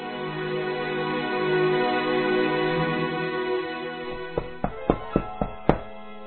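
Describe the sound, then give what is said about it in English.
A steady tonal background hum fades, then about six firm knocks on the door of Agnes's new apartment land in a quick, even series, distinct, with no one speaking. “At her new apartment, Agnes is in the kitchen when she hears a knock on the door.”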